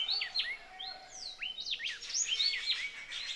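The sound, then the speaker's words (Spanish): Several birds sing and chirp at once in an outdoor setting, overlapping whistles and quick tweets filling the air continuously, with a faint low hum of natural background beneath. “El río, las aves, los insectos, son nuestros vecinos y nos están hablando.”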